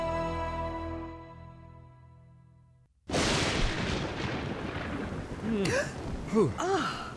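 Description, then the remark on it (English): A fading, sustained tone gives way to a sudden, loud crack of thunder from a severe storm that rolls into a long, heavy rumble, with a couple of short breathy gasps near the end. “Boy, they weren't kidding when they said this was going to be a bad storm.”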